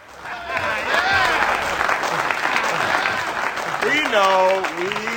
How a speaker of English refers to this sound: Early in the film, two daring members of the police force, played by Samuel Jackson and Dwayne Johnson, The Rock, return triumphantly to police headquarters after catching some bad guys. They're welcomed with a round of applause.